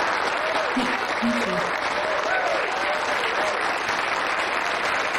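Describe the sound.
Audience applause, a dense, steady wash of many hands clapping that holds at an even loudness for the whole stretch, with faint voices and a few light cheers mixed in beneath.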